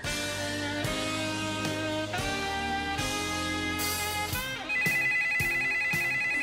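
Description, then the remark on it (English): The telephone of the Network Information Center office at Stanford in the early internet era rings with a bright, melodic electronic tone, its chiming notes repeating in a steady pattern, loud, with no voices. “And she was the person who answered the phone if you called the internet.”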